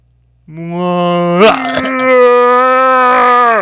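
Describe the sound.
A human voice imitates a whale retching: a long, loud, low moaning groan lasting about three seconds, broken by a brief rough gurgling burst early on before the steady drone resumes.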